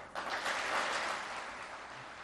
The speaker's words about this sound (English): As officials of his ruling party applauded, President Recep Tayyip Erdogan said,